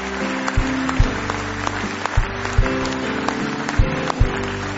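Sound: audience hand clapping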